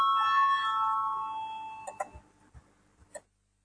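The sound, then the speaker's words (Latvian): A voting bell in a parliament chamber rings in a sustained, bright electronic tone that slowly fades over about two seconds, calling a vote on a proposal, followed by a few scattered clicks and soft knocks. “Lūdzu, zvanu, balsosim par 9.”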